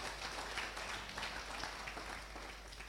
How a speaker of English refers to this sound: Give Jesus a clap of it.